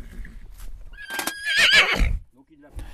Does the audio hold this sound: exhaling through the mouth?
no